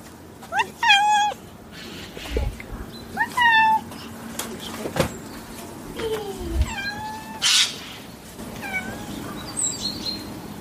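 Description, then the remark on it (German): A cat meows repeatedly, with five or six drawn-out, wavering cries at uneven intervals, clear over a quiet background with occasional soft thumps. “Aber naja, es war auch schön, eine Katze zu haben.”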